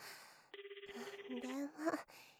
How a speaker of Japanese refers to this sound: 電話取って。